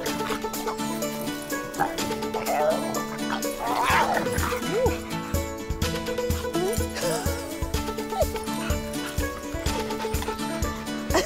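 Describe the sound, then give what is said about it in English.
Hugo the bulldog gives scattered, excited yips and whimpers while play-fighting with Igor, a hand-raised lion cub, in a safari park, the sounds partly buried under a steady, continuous music bed. “Hand-raised in this safari park, they formed a very close bond, and their favourite activity is a bit of rough and tumble.”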